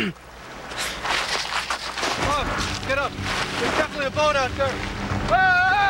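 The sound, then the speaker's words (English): A boat a few hundred yards out on the water, its low steady drone buried under gusty wind and rushing water, while voices shout loudly to it over the noise in the second half. “sounds like a boat”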